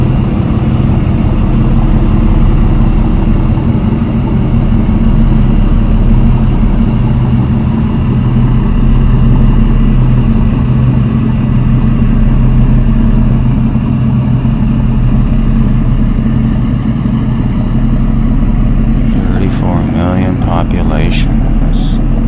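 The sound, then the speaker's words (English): An old, rusty boat engine chugs as the boat passes by on the Chongqing Guangguing Harbor, with a loud, steady low drone holding evenly for the whole stretch, and a burst of higher, warbling sounds near the end. “There's another nautical hunk of junk rust bucket passing by.”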